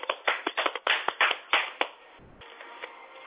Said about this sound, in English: And give me a round of applause for coming out and saying it.